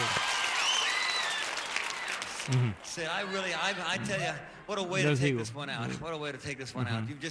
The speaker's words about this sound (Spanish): La gente aplaude.